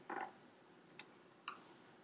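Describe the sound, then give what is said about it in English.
Small dice clatter briefly as they are rolled for a willpower roll in a tabletop role-playing game, a quick rattling burst followed by two light, separate clicks as they settle. Quiet, with no voices. “Man, these dice are so tiny.”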